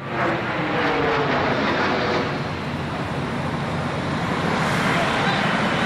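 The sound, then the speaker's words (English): A very large plane roars low, directly over a building on September 11, 2001, before going into one of the Twin Towers, a dense, steady engine rumble that stays loud for several seconds without fading. “A very large plane just flew directly over my building, and there's been another collision.”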